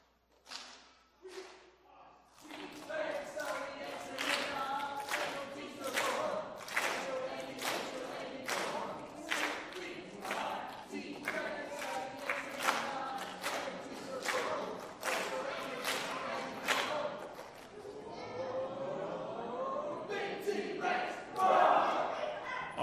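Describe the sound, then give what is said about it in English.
The green team chants its team cheer in unison, punctuated by steady, rhythmic claps or stomps that keep a loud driving beat for about twenty seconds before ending in a louder burst. “I don't know about your cheer though”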